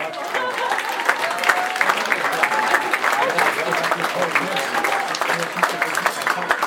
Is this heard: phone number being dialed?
no